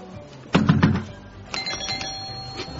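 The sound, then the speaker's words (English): A few quick, solid knocks on a door, followed by an electronic doorbell chime ringing out with sustained bright tones, clear with no talking. “Okay, so I knocked on the door, and I rang the doorbell.”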